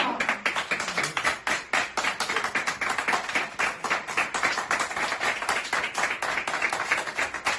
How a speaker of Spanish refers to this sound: Es una bienvenida, claramente, además que finaliza con ovación, con aplausos.